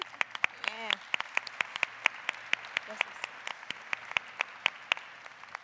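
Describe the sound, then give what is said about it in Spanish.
An audience breaks into applause, a steady patter of many hands clapping with sharp irregular claps standing out, sustained for several seconds at moderate loudness with a brief murmur of voices early on. “También se vale aplaudir.”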